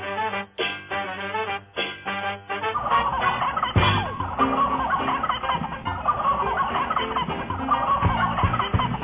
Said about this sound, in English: What is this? The turkeys in death throes here from a couple of days ago.